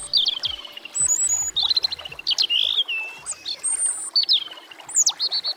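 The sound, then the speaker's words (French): A European robin sings a rapid series of high, thin, warbling phrases and trills, clear, with no voices over a faint background hiss. “Aujourd'hui, je vous présente le rouge-gorge.”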